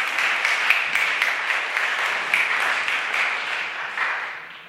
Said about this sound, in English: Why don't we give him a round of applause for loving us?